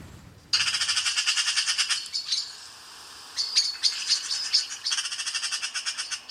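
A magpie's harsh, rattling chatter, a loud rapid series of scratchy notes that stutters briefly mid-clip, then resumes in quick bursts, with no voices.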